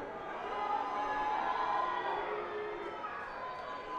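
A large crowd roars and calls out together in a sustained, dense wash of voices, steady and fairly loud throughout, sounding like an audience booing or chanting.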